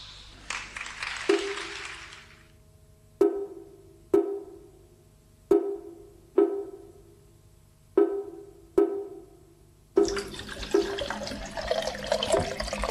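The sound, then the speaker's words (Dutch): A tap runs into a metal pan, splashing briefly, then several single ringing drips plink into it at uneven intervals before the water gushes steadily again, with no voices. “Vult het water.”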